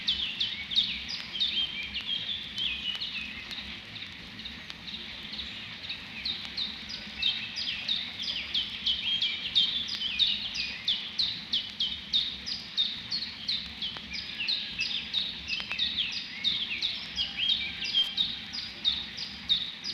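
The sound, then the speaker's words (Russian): A chiffchaff sings a steady string of short, high, bright notes, repeated in an uneven rhythm for the whole stretch, with a soft low rumble underneath and no voices. “Это она считает капельки. Тинь-тинь-тюнь, тинь-тинь-тюнь.”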